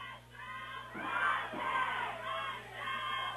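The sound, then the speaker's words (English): A big crowd of BG football fans roars and cheers in a stadium during a tied game with 7:50 left in the fourth quarter against the Bobcats, a sustained wall of shouting voices that swells in waves, with a steady low hum underneath. “And the BG fans pumped up here, Sky, with 7:50 to go in the fourth quarter, tie ball game.”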